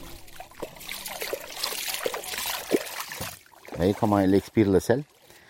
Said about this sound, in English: We're getting on a boat now and heading deep into the mangroves with environmentalist Aidar El Ali.